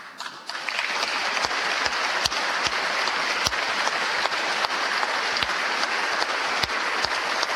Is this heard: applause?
yes